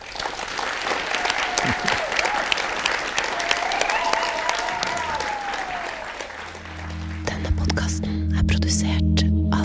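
Sustained audience applause for Paul Carlsen, dense and fairly loud, with a brief whistle-like tone rising over the clapping before a low hum and steady noise take over near the end.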